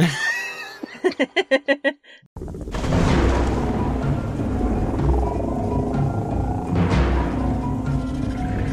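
A short burst of rhythmic laughing gives way to a steady, loud wash of rain, with a couple of thunder cracks rolling through over the downpour.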